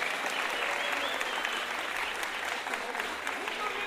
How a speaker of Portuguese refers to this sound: Gente, eu queria uma salva de palmas pro samba delas que tá aqui hoje, aqui as meninas.